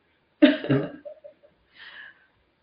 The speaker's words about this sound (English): I have to cough again.